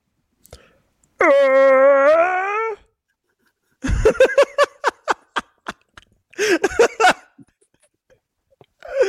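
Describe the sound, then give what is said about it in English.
A person imitates a white whale with one long, wavering, high tonal moan lasting over a second, followed after a pause by choppy bursts of laughter. “what sound does a white whale make?”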